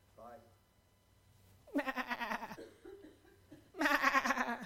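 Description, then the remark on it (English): A man's voice imitates a sheep, giving two loud, wavering bleats with a short pause between them, after a brief soft vocal sound. “In other words, Jesus heard the sheep bleeding.”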